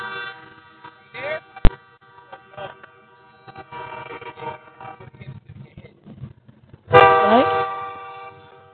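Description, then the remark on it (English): A loud train horn blares near the end, a sustained harmonic blast lasting about two seconds after a stretch of muffled voices, a sharp click and scattered clattering noises. “You got hit by the train.”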